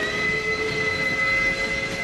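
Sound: train passing on rails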